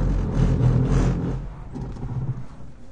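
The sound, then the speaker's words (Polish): A car skids at about 43 km/h across a track that is still being watered, its tires squealing over a loud engine roar and hissing spray. The noise peaks early, then eases into a rougher rumble as the car slides on. “Jeszcze jedna próba po tym torze, który wciąż jest polewany wodą. Koła piszczą.”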